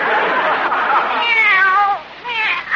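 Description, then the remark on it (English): A kitten meows loudly: a long, wavering, drawn-out yowl, then a brief pause and a shorter second meow. “Lately, that cat's been as jumpy as a person.”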